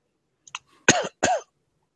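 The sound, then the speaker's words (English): A person coughs twice in quick succession, fairly loud, after a couple of faint throat clicks; otherwise quiet, with no talking. “Somebody coughs.”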